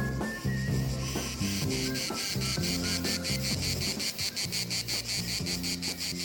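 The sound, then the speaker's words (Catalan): Crickets chirp steadily in rapid, evenly pulsed trills, clear, layered over a soft melodic music bed with no voices. “El grill a l'altre grill demana: on és el roure?”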